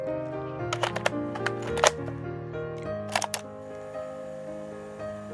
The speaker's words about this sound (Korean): 난 하던 일을 멈추고 전자상가로 달려가 카스트 플레이어를 하나 샀다. 그리고 조심스럽게 테이프를 넣었다.